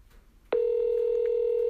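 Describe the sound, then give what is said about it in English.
After half a second of low hiss, a telephone ringing tone starts abruptly as a call is placed to Wrinkles the Clown's number: a loud, steady, mid-pitched electronic hum that holds unbroken to the end, with no voices. “It's ringing. Oh my God, it's ringing.”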